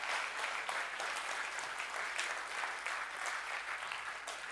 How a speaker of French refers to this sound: on peut l'encourager, l'applaudir.